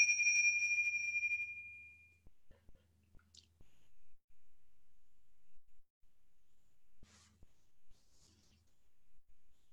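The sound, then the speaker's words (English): A single chime rings out clearly at the start, its bright tone sustaining and fading over about two seconds, followed by near silence with faint rustles and soft clicks. “I'm going to go ahead and ring the chime and then just be with that and see, what is it that I wanted to say about that right now?”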